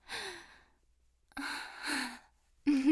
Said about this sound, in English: No, I'm not. Shut up. I'm just breathing hard because I'm exerting myself. I'm not getting turned on.